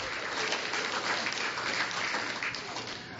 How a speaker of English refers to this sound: Round of applause for my helpers as they put their animals in there.